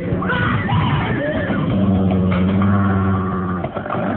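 Horses scream and whinny as wolves attack them, in frantic, overlapping cries, loud, with shrill wavering calls piling on top of one another for several seconds without a break.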